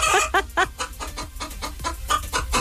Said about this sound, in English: Answer your phone clucking like a hen. Simple as that.